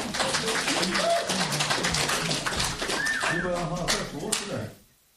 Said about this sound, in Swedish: Du är ju redigt duktig, systern. Ge henne en applåd.